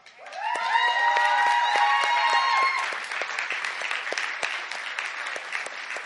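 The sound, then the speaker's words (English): A crowd breaks into a loud, sustained round of applause for the young men and women who were involved as they stand up, with high-pitched cheers and whoops rising over the clapping in the first half before the clapping continues steadily on its own. “Now, I want these young men and women who were involved, these youth, if you were a youth, would you stand up and let us give you a round of applause?”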